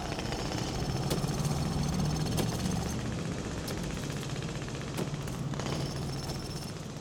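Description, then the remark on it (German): Steady construction noise of the Berlin Wall being built across Berlin in the night of 12 to 13 August 1961: a rapid, rattling jackhammer-like pounding over a low engine drone, with occasional sharp metallic clanks, unbroken, with no one talking. “Obwohl die DDR-Regierung noch im Juni 1961 erklärte, dass niemand vorhatte, eine Mauer zu bauen, konnte man in der Nacht vom 12. auf den 13. August 1961 plötzlich Baulärm hören.”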